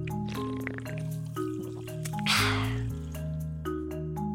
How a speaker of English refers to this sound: For me, I have a can of sparkling water right here. All right, I'm gonna take a sip.